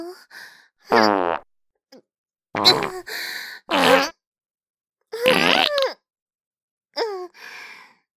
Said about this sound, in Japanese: あら、大丈夫？臭いおなら嗅がされすぎて、頭クラクラしてきちゃったかしら。